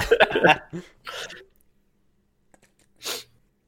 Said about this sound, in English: Oh, dead air and a sniffle while I take a big sip of water.